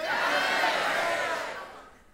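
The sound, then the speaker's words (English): An audience, on a count of three, shouts their different denominational backgrounds all at once in a loud, jumbled roar that holds steady for over a second, then fades out quickly. “That is discord, by the way. Did you hear that?”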